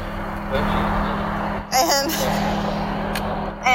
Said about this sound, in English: And it's poop bags. Did you hear the sound of the garbage going into the dumpster?